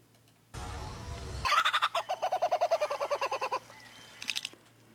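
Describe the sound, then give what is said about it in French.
A bird mimicking another bird species' call: a harsh rasping burst, then a rapid, loud run of about fifteen gobbling pulses, ending with a short faint chirp. “Ou des fois, ils imitent les sons d'autres espèces d'oiseaux, comme celui-là.”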